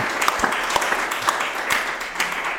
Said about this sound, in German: Also wir danken Ihnen erst einmal herzlich. Vielleicht auch einen Applaus.